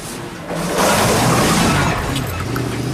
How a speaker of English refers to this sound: As the graying elderly man who's carrying a white and ginger cat in a leather holdall locks up, Edgar rattles past in his pest control truck.